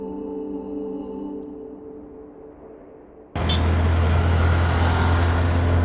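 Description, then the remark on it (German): After a quieter tonal opening, a loud engine roar suddenly takes over: two tiny tuk-tuk moped taxis carrying passengers drone steadily through dense traffic in the old royal city of Kandy, with no voices. “Mit zwei winzigen Moped-Taxis, genannt Tuk-Tuk, werden wir durch den Verkehrsbrei der alten Königsstadt chauffiert.”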